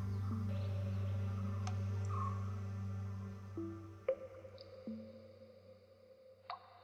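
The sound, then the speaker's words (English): Scattered single drops of water fall at uneven intervals inside a greenhouse, fat drops falling from fog gathered at the slanted glass ceiling, each a crisp plop with a short ringing tail, over a steady low hum in an echoing space. “A self-contained ecosystem, complete with a fog of clouds gathering at the slanted glass ceiling, precipitating fat raindrops.”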